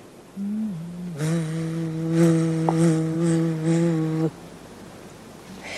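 A large bumblebee flying around on a summer day drones on a steady low hum at the note E for about four seconds, its pitch wavering slightly as it moves, then abruptly falls silent. No one speaks.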